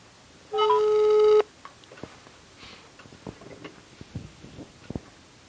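A phone line ringing on an outgoing call from the De Stentor sports desk to a journalism student: one steady, mid-pitched ringback tone lasting under a second, followed by faint clicks and soft line noise, with no voices.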